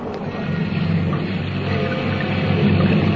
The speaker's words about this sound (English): 6 days of blinding, blowing, desperate rain.